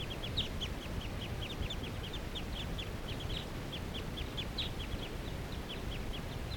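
A flock of four wild birds calls in a rapid, continuous stream of short, high-pitched chirps, the voices overlapping above a steady low background rumble, with no talking, as they get ready to take off.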